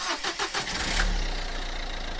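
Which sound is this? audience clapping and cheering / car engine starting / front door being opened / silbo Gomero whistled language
car engine starting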